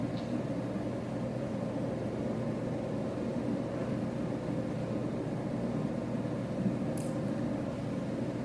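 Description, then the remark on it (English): A steady, unbroken whoosh of air from an air conditioning vent, a soft low rumbling hiss that holds an even level throughout, with no voices and only a faint tick partway through. “I want you to listen to the air conditioning vent making its whisper, its steady sound.”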